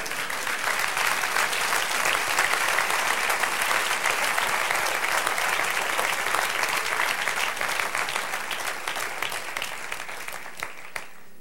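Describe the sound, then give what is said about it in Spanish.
Sustained applause from an audience, a dense wash of many hands clapping at steady loudness for about ten seconds before thinning out and fading at the end. “Dale un aplauso.”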